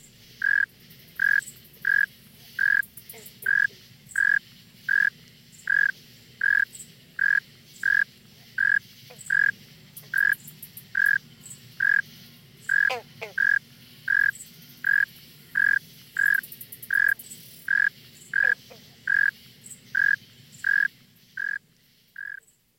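A northern mole cricket sings a steady series of low, evenly spaced chirps, about one every second or less, loud over a faint background hum, with no voices.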